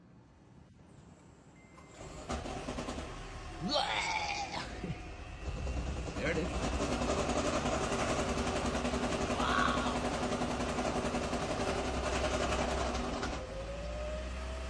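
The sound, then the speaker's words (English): A Toyota Prius engine idles with a steady mechanical rattle, caused by an engine misfire from faulty injectors, that starts after a couple of seconds and runs continuously, with a man briefly speaking over it. “Toyota Prius, engine rattling noise.”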